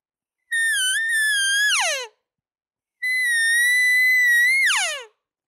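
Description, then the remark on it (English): Two long, high-pitched whining calls imitating a cow elk's estrus whine, the sound a cow elk makes when she comes into heat. Each holds a steady tone before sliding sharply downward at the end, loud and rich in harmonics, separated by a brief pause. “So it's the sound that a cow makes when she gets into heat.”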